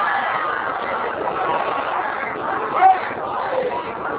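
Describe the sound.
A large crowd recites salawat together in one sustained, dense wash of voices, holding a steady loudness throughout, with a brief swell of sound near the end.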